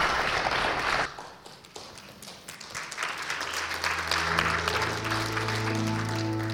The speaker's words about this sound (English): All right, round of applause